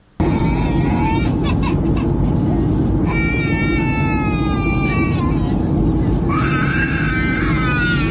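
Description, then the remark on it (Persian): A baby wails in long, high-pitched bursts during a flight, crying twice with a short pause between, over a loud, steady low roar of aircraft cabin engine noise. “ویدئوهای پرشمار در شبکه‌های اجتماعی منتشر شده که نارضایتی برخی از مسافران را از گریه کودکان در هنگام پرواز نشان می دهد.”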